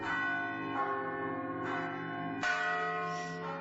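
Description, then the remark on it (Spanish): Large cathedral bells in Santiago peal in overlapping succession, ringing as the city bids farewell to five departing Discalced Carmelite nuns, each new strike blooming into a rich, sustained ring with long resonant tails, loud and full without any voices. “Santiago despidió a las cinco hermanas con lágrimas en los ojos y también las campanas de la catedral sonaron de una manera especial.”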